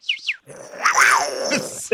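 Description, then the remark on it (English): A person imitates a jaguar with a rough, rising-and-falling growling roar lasting over a second, preceded by two short high-pitched chirping sounds. “Into Jaguar now.”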